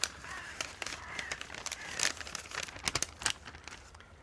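Paper crinkles and crumples in irregular bursts of sharp crackling, with no voices, as if a sheet is being scrunched and unfolded by hand.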